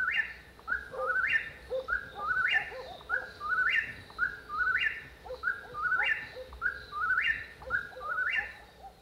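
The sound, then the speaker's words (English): A whippoorwill calls over and over, its whistled three-note phrase repeating about once a second in a steady, insistent rhythm, clear against a faint background hiss. “That's the whippoorwill.”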